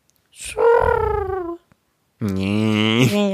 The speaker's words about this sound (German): Ja, das zur Brandgans oder auch Brandente. Eine Halbgans.